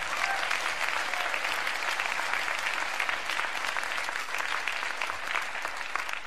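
A crowd applauds JCCSF steadily for several seconds, a dense, even wash of many hands clapping at once with no pauses and no voices standing out.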